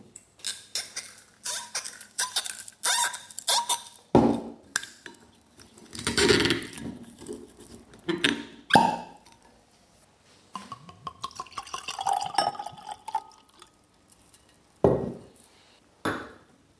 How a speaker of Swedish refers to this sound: Interkardinal Åhus Solaris 2010 står det på det. Det är det vita ni tillverkar, va? Mm, det stämmer det. Jag ska öppna den här flaskan så ska du få smaka det också.